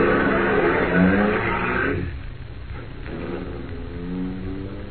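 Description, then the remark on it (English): A car driven by Harris revs loudly, then the sound drops off as the vehicle pulls away, leaving a lower, steady engine rumble that fades out. “When Harris drove away, I walked over to my car and got in.”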